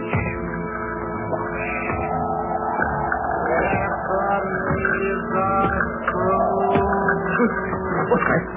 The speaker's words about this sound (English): What was that noise deep down below in the cellar, as if somebody were dragging a heavy chain?